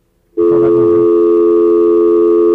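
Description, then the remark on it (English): A loud, steady telephone tone sounds after a moment of silence, holding one unbroken, even pitch to the end without pauses or separate beeps, as a call is placed from a phone on campus. “I don't have to dial all the digits because I'm here on campus.”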